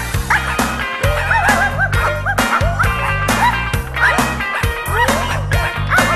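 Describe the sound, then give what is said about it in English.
High, squeaky puppy yips and little barks, puppies in Santa's toy sack in a Christmas song, pop up again and again over a steady, bass-heavy music track, clear throughout. “There's puppies in the sack.”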